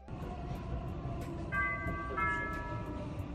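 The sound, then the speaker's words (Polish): Steady rumble of a Warsaw metro train running, with a two-part electronic chime ringing out clearly over the noise partway through. No one speaks. “Pan Jack Posobiec, amerykański konserwatywny komentator polskiego pochodzenia, którego nazwisko po polsku brzmi Posobiec, zamieścił na Twitterze filmik z nagraniem z warszawskiego metra.”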